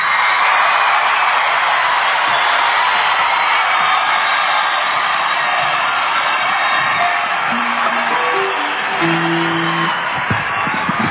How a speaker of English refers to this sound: I want to give a big round of applause to ….